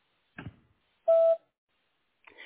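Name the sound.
answering machine beep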